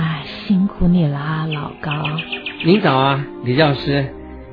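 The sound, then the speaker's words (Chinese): Small birds chirp in the trees of a courtyard in spring, in quick, high bursts, a short run of rapid tweets rising between two people exchanging greetings, the birdsong moderately clear beneath and around their conversation. “您听树上的小鸟叫了那么起劲儿呢。”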